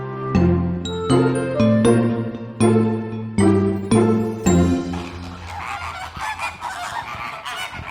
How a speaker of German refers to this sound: Eines der typischsten Geräusche in Hellabrunn und jeder weiß, wo wir sind. Genau, die begrüßen einen am Flamingo-Eingang schon ganz herzlich, unsere Flamingos.